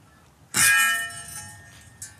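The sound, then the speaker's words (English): A single loud metallic clang rings out sharply as a farmer hits a bell to scare away elephants raiding crops. Its bright tones linger and slowly fade, followed by a fainter second tap near the end. “This is my gun. When I hit this elephant, when it hear the noise, it go back.”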